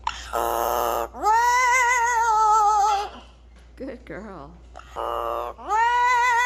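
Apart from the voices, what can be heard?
amazon parrot vocalizing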